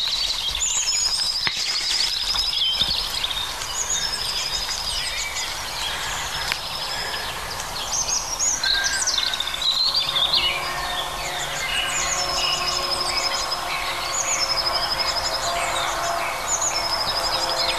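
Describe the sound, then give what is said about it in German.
European robins sing over one another in a dense, continuous chorus of high, thin warbling phrases and trills, fairly loud and steady throughout, with no talking. “Also die Rotkehlchen übertrumpfen sich gegenseitig.”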